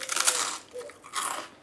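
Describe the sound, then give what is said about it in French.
Someone crunching on a biscuit: two bursts of crisp, crackly bites, the first from the start to about half a second, the second around 1.2 seconds, with quieter chewing between. No voices. “C'est bien quelqu'un qui mange un biscuit.”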